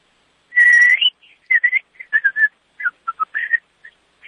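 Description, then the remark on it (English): A caller to a talent show whistles a tune over a phone line: one long, steady high note, then a run of short, choppy notes that dip and rise slightly, with brief gaps and no talking. “Yes, I'm going to whistle. I don't know how it's going to come across on the phone.”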